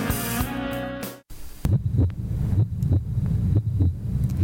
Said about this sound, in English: Can you hear it? The simple sound of a heartbeat, the very sound that so many of us take for granted every day.